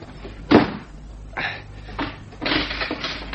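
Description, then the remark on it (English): A door shuts with a sharp thud, followed by a few lighter clicks and rattles of a lock being turned. No voices, just a low background hum. “You locking the door reminded me of someone.”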